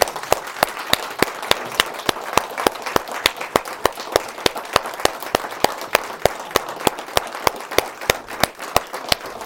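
Steady rhythmic clapping keeps an even beat of about four sharp, crisp claps per second, unbroken for the whole stretch, with no voices over it.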